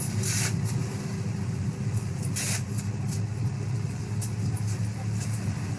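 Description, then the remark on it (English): A London Routemaster bus engine rumbles steadily, a deep continuous drone with a few brief clanks and rattles breaking through now and then. No clear voices or bell stand out. “So we can hear the sounds of the engine of the bus, the bus conductor, and even someone ringing a bell asking the bus conductor to stop at the next stop.”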